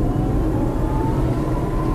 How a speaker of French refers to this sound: Voilà, vous l'entendez, il y a une accélération immédiate quand on appuie sur l'accélérateur. C'est une vraie voiture électrique qui donne toute sa puissance, malgré ses 44 chevaux, donc ce qui est très peu. Mais franchement, elle a beaucoup de peps.